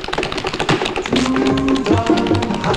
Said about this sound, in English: Pointing with her fan, she changes directions and then does tapping pirouettes in place. The beaded fringe on her short costume glimmers in the light as she whips around.